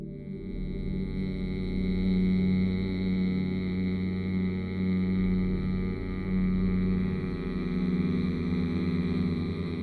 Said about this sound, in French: Pour le produire, vous allez inspirer à fond par le nez, puis bouche fermée, les lèvres délicatement posées l'une sur l'autre. Vous allez faire vibrer, faire bourdonner le son « mm » tout en expirant par le nez. Comme ça.